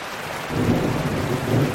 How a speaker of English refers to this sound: Thunderstorms now replaced the sound of rockets, even if only briefly.